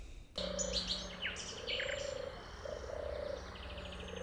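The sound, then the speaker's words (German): A European turtle dove's soft, low purring coos roll out in several repeated phrases, while other birds chirp and twitter brightly in the background of an outdoor scene. “Hören wir uns mal an, wie die Turteltaube eigentlich klingt.”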